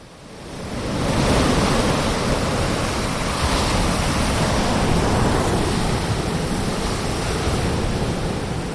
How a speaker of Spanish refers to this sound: Te cruzan la calle y de repente escuchas y ves la inmensidad del mar y notas los rayos del sol en la poca piel que sale de las sábanas.